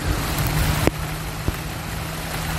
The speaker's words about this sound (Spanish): Así ha sonado el chaparrón que caía en Carabanchel a eso de las 5 de esta mañana.